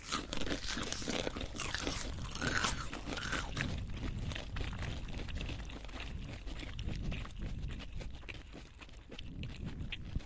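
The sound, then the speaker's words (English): Crunchy food being chewed with the molars, producing a steady run of loud, crackling crunches over about ten seconds with no talking. “perceived cumulative intensity of force required for repeated incremental failures of the product by chewing up to 5 times with molars, a relationship between crunchiness and chewing effort between the 5th and 10th chew.”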